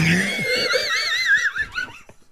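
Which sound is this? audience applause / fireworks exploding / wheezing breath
wheezing breath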